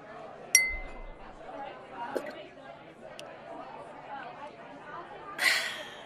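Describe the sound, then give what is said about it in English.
A single bright clink of glasses in a toast rings out near the start and hangs briefly, set against a low murmur of crowd chatter, with another sharp burst of noise near the end. “And you know what? Cheers to that.”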